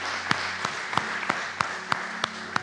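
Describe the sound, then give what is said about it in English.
An audience claps hands together as praise to the Lord in a steady, even rhythm, about eight sharp, loud claps over a continuous wash of scattered applause and low background noise, with no talking. “We'll give the Lord one more hand clap of praise.”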